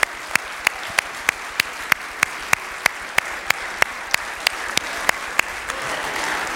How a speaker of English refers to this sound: I want you to stand to your feet and give God a great round of applause for all that he's done. Come on. Come on. Come on. Come on. Come on.